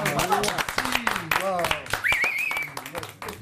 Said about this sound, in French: Applaudissez-vous.